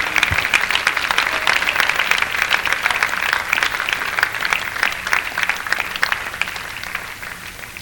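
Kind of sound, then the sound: crowd, audience hand clapping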